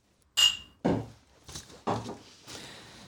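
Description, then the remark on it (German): A bright glass clink with a brief ringing tone as glasses are touched together in a toast, followed by a few duller knocks and thuds as they are set down. “Und erstmal Prost. Ja, Prost.”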